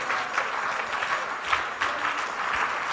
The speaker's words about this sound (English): Are you clapping for Jesus in this place? Are you giving the glory to Jesus in this place?